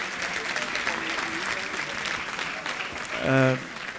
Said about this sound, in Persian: مرسی، خودتون تشویق کنین لطفاً.